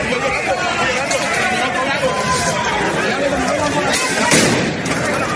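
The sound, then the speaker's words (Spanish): A dense, loud crowd at a rally on Ferraz roars and chatters throughout while several sharp bangs of tear gas and rubber bullets being fired cut through at irregular intervals, the strongest near the end. “Ahí empezaban a llegar los gases lacrimógenos y enseguida llegaron las pelotas de goma.”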